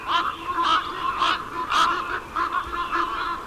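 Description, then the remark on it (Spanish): A dense chorus of hundreds of ravens croaking and calling at once as they fly into their roost at Puerto Nueva Cerrada, between Madrid and Segovia, Spain; overlapping harsh cries repeating in bursts throughout, moderately loud with no speech. “Y ahora unos centenares de ellos entrando al dormidero.”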